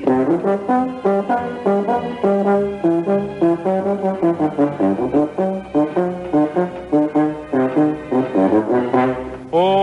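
A euphonium plays a bouncy melody of short, mellow brass notes in a mid-low register, phrased in quick rhythmic bursts with steady volume and no voices.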